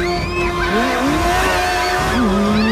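A motorbike roars as it speeds along a road toward a woman, its engine pitch climbing as it accelerates, while tyres squeal and skid loudly through the whole moment; the rider picks her up by the jacket. No one speaks.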